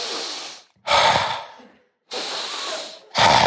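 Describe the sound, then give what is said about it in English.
Slow, heavy breaths in and out, each lasting about a second with brief pauses between, fairly loud, with no talking. “So when I went home, I'm standing in the kitchen, breathing properly for the first time in my life, I'll let you know.”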